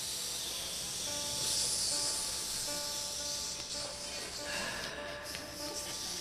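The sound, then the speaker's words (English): Steady sizzling of country sausage frying in a pan, a bright crackling hiss that holds at an even level throughout, with a faint tonal hum underneath and no voices. “It was good old country sausage frying up in the pan.”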